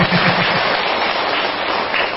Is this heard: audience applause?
yes